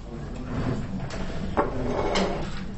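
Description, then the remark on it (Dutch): A chair is carried and set down at a table by someone bringing their own chair because the chairs have run out, with a continuous wooden scraping and shuffling, a sharp knock about halfway through and a second bump near the end. “De stoelen zijn op. Nou, eigen stoel meenemen.”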